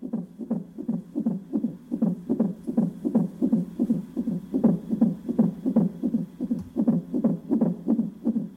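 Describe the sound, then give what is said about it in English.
An unborn baby's heartbeat on a heart monitor pulses fast and steadily, about two and a half beats per second, with a muffled throbbing whooshing swish on each beat and no voices. “John Hull's first memory of blindness is the sound of his unborn baby's heart beating on a heart monitor.”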